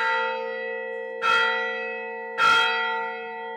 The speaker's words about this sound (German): Schlag 12 Uhr. Zeit für die Mittagsmesse im Katharinenkloster. Wie jeden Tag seit 1500 Jahren. Wir befinden uns im ältesten aktiven Kloster der Welt. Das Katharinenkloster liegt fast 1600 Meter über dem Meer im Süden der ägyptischen Halbinsel Sinai.